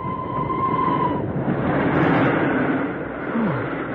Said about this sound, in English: Oh! The tunnel! What's the matter? The tunnel. I remember the tunnel. The train going into the tunnel.